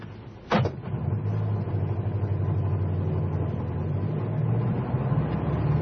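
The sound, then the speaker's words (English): A hailed taxi's engine idles with a steady, low rumble, a sharp knock near the start, then keeps running as it begins to pull away to follow another car. “There's a taxi. Hey, taxi! Follow that car.”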